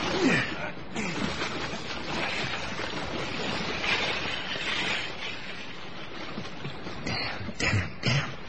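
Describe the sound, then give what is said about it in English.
A boat is shoved off into lapping water in fog, with a steady wash of waves and wind, then a few sharper splashes near the end. “Quick, into the boat. You'll have to shove off.”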